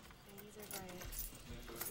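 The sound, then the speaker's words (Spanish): Keys on a keyring jingle in a few bright, metallic bursts of clinking, heard under a voice talking with a low rumble beneath, as a woman visiting her husband in prison uses a tool from her keyring to loosen the screws of the dividing window. “Con cuidado, usa una herramienta de su llavero para aflojar los tornillos de la ventanilla divisoria.”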